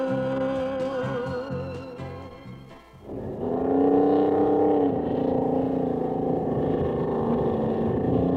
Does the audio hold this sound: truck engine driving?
yes